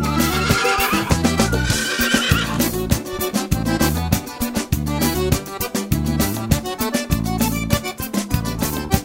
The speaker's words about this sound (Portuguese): Bagual preto, puro sangue, lá dos pagos de Erechim, relinchando nas coxilhas e a égua atrás de mim.